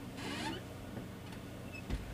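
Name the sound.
chair creaking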